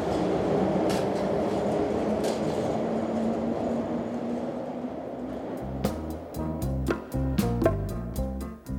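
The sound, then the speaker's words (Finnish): A metro train rumbles steadily with a low droning hum, then rhythmic wheel clacks over rail joints pick up in the final seconds, loud. “Metro! Samperi!”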